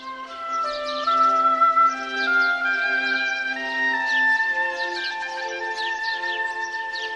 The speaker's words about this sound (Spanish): Érase una vez un reino donde todos eran felices y los pájaros cantaban alegremente.